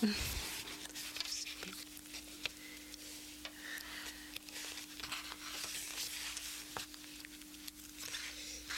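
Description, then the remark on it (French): Soft rustling of a book's pages being leafed through, a continuous papery shuffle punctuated by brief crisp flicks, with a faint steady hum beneath. “Le bruit des feuilles, si délicieux quand on feuillette le livre.”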